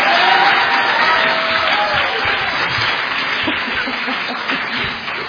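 A crowd applauds steadily for several seconds, a dense wash of clapping that stays loud throughout and tapers only slightly at the end, with a faint voice or cheer briefly audible early on.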